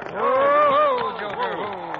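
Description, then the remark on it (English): Several cattle low together in overlapping, drawn-out calls that rise and fall in pitch, forming a fairly loud, continuous chorus of a herd. “Bill, you ain't going to try and turn them cows.”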